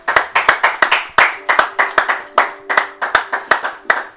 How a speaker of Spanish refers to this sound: Bueno, vamos a dejarnos de movida y vamos a darle un fuerte aplauso y la bienvenida a nuestro amigo